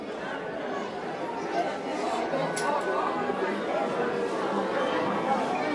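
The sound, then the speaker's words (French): A dense crowd packed in front of a shop murmurs as the shop door finally opens after three hours of waiting, many overlapping voices blending into a steady, even babble with no single speaker standing out. “Un long soupir de satisfaction parcourut la foule, agglutinée devant le magasin.”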